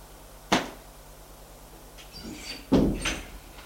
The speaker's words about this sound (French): frappe à une porte. Entrez. Ils entrent.